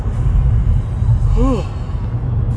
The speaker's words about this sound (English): Yep, today's the day to yawn. It's early, I'm talking a lot. The oxygen's not going to my brain, so it's pausing me to stop and yawn.